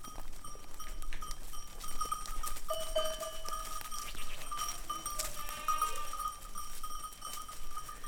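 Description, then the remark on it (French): A herd of goats outdoors in the desert, with a brief bleat rising near the middle over a steady jangle of small bells and shuffling hooves, moderately loud. “Et là, ça fait 20 ans que je suis la seule au désert à avoir des chèvres, quoi.”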